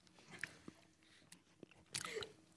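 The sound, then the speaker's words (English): Crunchy chewing of a biscuit in a person's mouth, done as ASMR, with several sharp crackling bites and wet mouth sounds, the loudest crunch coming near the end. “I've got a fucking biscuit in my mouth too, don't I?”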